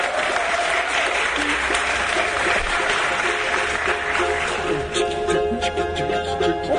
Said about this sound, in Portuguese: Olha só que beleza de samba, gente. Passar de palmas pro compositor.